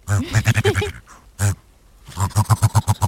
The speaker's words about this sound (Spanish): El urogallo de las rocosas, o sea, eso está en Canadá, ¿no? En Estados Unidos, ¿no? En América del Norte, sí.